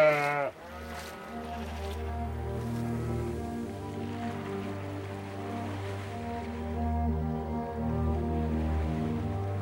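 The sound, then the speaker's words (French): Sheep bleat right behind the listener while walking through the meanders of the Molières, several overlapping calls forming an almost continuous chorus of drawn-out, wavering cries, with one sharp, high bleat at the very start and no talking. “Ah, et nous arrivons carrément au cul des moutons.”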